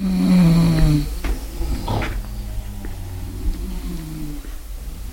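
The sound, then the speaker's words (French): Low, rumbling snores from female Chinese neighbours in the middle of the night, one strong snore at the start followed by softer, drawn-out breathing snores, with faint creaks and rustles in the background. “Les ronflements de mes voisines chinoises dansent le seuil de ma tolérance.”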